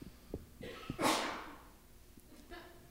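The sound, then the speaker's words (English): A single sharp sneeze bursts out, brief and breathy, with a few soft clicks and thumps around it and no talking. “Bless you.”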